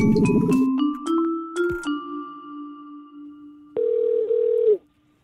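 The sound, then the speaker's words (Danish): A phone line connecting: a short run of electronic beeps and chimes, then a steady, fairly loud ringing tone that holds for about a second before cutting off. No one speaks. “Så var der fandme hul igennem.”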